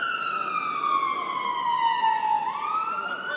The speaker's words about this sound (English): That one sounds like a fire engine. Big.